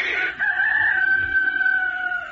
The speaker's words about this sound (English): But the rooster would crow and answer.